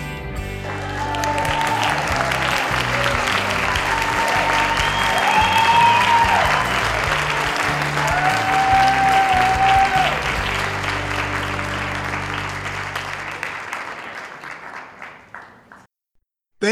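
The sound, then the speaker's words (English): Sustained audience applause from a crowd, a dense wash of many hands clapping with a few whistles rising above it, holding steady for about fourteen seconds before tapering off. “Oh, please, hold the applause until I'm finished.”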